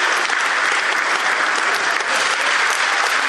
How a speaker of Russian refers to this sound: Затаив дыхание, она слушала обожаемого артиста. А в конце представления … одарили шквалом аплодисментов.